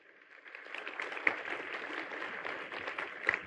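Audience applause for two volunteers after a card trick, a dense, crackling wash of many hands clapping that swells in over the first half second and holds steady for about three seconds, fairly quiet, with no voices.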